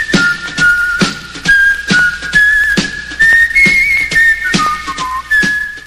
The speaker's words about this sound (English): While I was home, I heard weird whistling outside.